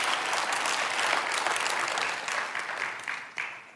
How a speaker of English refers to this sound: Now give God a good clap offering. Believe that. Amen.